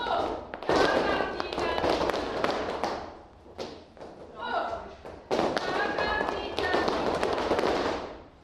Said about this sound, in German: Konzentriert klatschen und stampfen, abwechslungsweise mit Absatz oder Fußballen und dann dazu drehen und am Schluss noch die Arme kunstvoll bewegen. So wie es eben zum Flamenco passt.